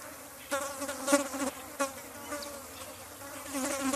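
Flies buzz steadily on a farm in a grassy paddock on a hill, on a sunny day with a light breeze, a continuous droning hum with small swells in loudness as they move around, outdoors with no voices.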